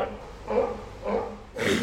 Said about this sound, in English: And that's a sneeze. You know, they're alarmed. They don't know what's going on. They might go into the water, which is safer.